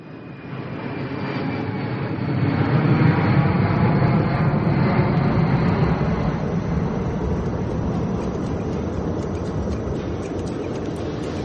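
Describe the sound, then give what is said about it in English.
A steady, heavy low roar of jet engines fills an airliner cabin in flight, a continuous rumbling drone with a faint hiss on top and no voices. “So, this is how the common airline passenger travels.”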